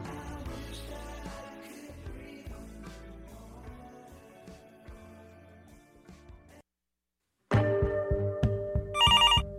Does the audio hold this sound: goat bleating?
no